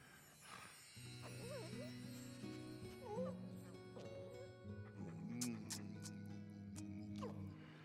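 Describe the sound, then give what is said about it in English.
A dog named Rosette, left in a car, whimpers and yips, its high whines rising and falling in several short bursts over a low, steady background hum. “The dog in my car.”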